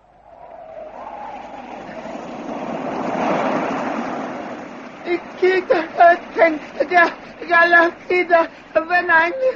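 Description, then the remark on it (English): A broad, hissing wash of choppy open sea with treacherous currents swells up and ebbs away over several seconds around a raft swept out to sea, then gives way to people talking. “swept out to sea by treacherous currents.”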